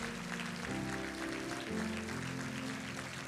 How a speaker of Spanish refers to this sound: Denle un aplauso por estas preciosas dos vidas.